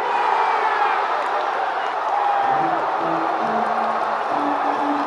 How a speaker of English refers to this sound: And indeed, when Uehara stood on the mound for the final out, the Red Sox fans, having not witnessed a World Series win at home in 95 years, were ready to cheer their heads off